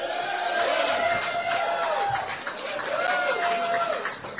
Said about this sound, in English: I love you. You're the only people who applaud Jaeger. And I'm telling you, something is wrong with that.